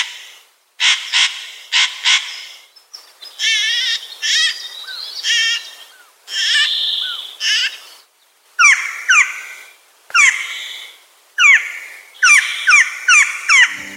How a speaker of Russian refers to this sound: Это поет кедровка – настоящий таежный лесовод. Эти птицы делают огромные запасы на зиму, пряча семена в лесную подстилку,